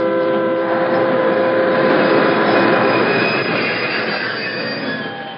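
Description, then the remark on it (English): A train brakes, the conductor swinging the handbrake to stop for rocks on the track, with a loud, sustained metallic squeal of wheels over steady rumbling rail noise, several shrill tones holding throughout before easing off slightly at the end. No one speaks. “Let the conductor know he's got to swing the handbrake.”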